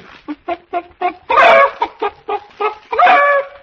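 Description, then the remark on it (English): A hen cackles loudly: a run of quick, clipped clucks builds into a long, harsh squawk, then the pattern repeats and ends on another drawn-out cry. “I'm a cackle that means we'll have scrambled eggs soon.”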